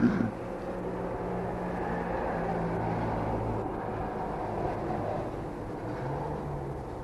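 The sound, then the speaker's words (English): Steady traffic noise from many cars going up and down a road, a continuous low engine rumble with a humming drone that shifts slightly in pitch as vehicles move past. No voices. “Now, there's a lot of cars going up and down the road, so I think you better just say it again.”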